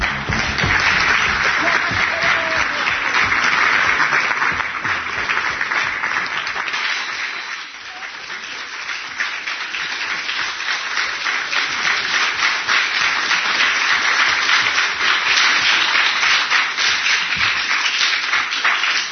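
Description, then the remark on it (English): A sustained wash of audience applause for the full length as a guest comes up, dense and steady, dipping briefly midway before swelling again, with no one speaking over it. “When you come up, you know, as the people applaud, there will be special music”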